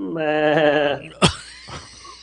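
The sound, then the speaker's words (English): A person imitates a goat with one quavering, nasal bleat that lasts about a second. A couple of short, sharp bursts and some breathy noise follow. “No, I was about to do a goat noise, but I've never done that before in my life, so try, who knows how that would sound.”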